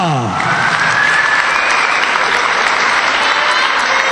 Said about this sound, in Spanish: Hoy no lo tenemos con nosotros, al dorsal número 12, Alberto Pérez. Va a estar en el equipo y por eso le vamos a dar un aplauso. Venga, ese aplauso se lo decís, chicos.